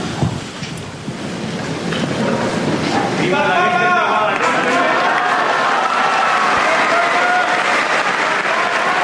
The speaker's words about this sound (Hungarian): Nem maradt el a mai napról sem a taps, és ezáltal a Szent Atya köszöntése és megköszönése az ő áldásának.